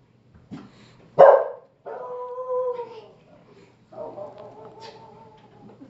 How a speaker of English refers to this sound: Dogs.